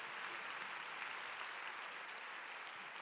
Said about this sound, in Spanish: Un aplauso para estos hermanos que viven en un país extraño, que no es el nuestro, y lo han acogido.